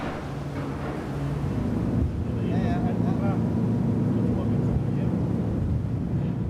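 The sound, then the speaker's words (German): A ferry captained by Stig Kaspersen comes in to dock in the harbour of Langeland, its engine droning in a steady, deep rumble, with brief high squeals rising over the throbbing hum around the middle. “Ein letztes Mal für heute legt Kapitän Stig Kaspersen mit seiner Fähre im Hafen von Langeland an.”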